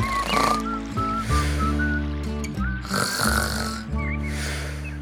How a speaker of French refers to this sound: Hé, …, tu ronfles.